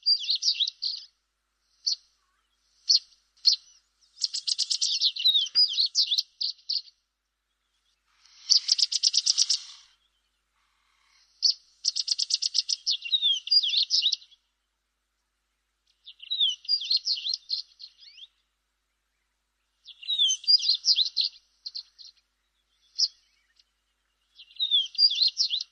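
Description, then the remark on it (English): Violet-eared waxbill calls alone: high, thin twittering phrases and short chirps come in bursts separated by pauses, clear against a silent background. “Today's bird call was the violet-eared waxbill.”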